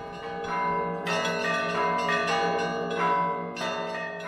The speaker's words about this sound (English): Of course, church bells are called to declare glory of God in the church context. But I think it's the will of God that they left Russia because that let them survive.